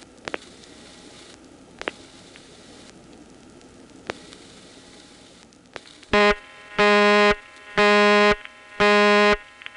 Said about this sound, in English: The tone that indicates it's a reverting call when it comes in is very subtle.